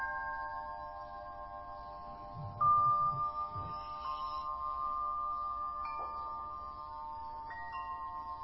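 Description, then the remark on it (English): Bells ring with long, shimmering sustained tones, struck again every second or two so the notes overlap and blend into a steady hum over a soft low rumble, with no voices. “Just like you could differentiate between you and the sounds of the bells, notice you can differentiate between you and the sensations.”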